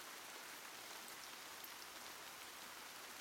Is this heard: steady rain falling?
yes